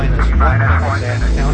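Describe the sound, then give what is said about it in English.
An engine rumbles to life with a loud, deep droning hum and layered tonal bands, while a wavering mid-pitched whine shifts above it throughout. “Engine's beginning.”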